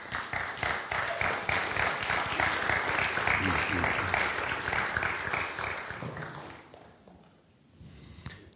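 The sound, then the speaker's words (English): A crowd breaks into sustained, dense applause with scattered cheers, holding loud for about six seconds before thinning out and fading to a few stray claps. “I hope you're still cheering when you're on the rack.”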